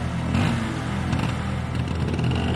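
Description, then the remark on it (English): A moped's small engine buzzes steadily, its pitch rising and falling slightly as a woman in a helmet revs it and pulls away, with a faint rattle underneath and no voices. “She puts on a helmet and takes off on a moped.”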